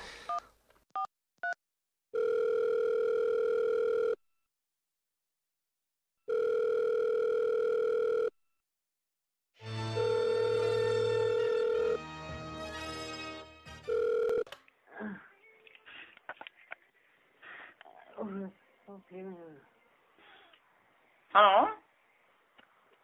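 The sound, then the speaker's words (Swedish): A few quick dialing beeps, then two long, steady telephone ringback tones separated by silence, followed by a jumble of line tones before a voice answers and talking begins. “Vi ringer en till.”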